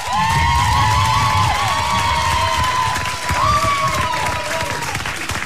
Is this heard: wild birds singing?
no